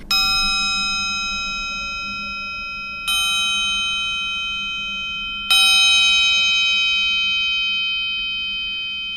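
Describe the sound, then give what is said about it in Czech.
A triangle is struck three times at a slow, even pace to open a meditation session, each bright metallic ring sustaining and overlapping the next as it gradually fades, clear with no voices. “Na úvod každé té meditace by mělo být takový trojí buď zazvonění, anebo trojitý gong. Já teda používám triangle.”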